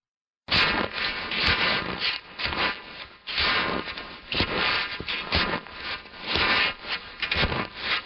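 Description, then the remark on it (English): Steady crunching footsteps through snow, a rough, gritty scrunch repeating in an uneven walking rhythm for several seconds, fairly loud, with no voices. “Just the sound of, like, walking through snow.”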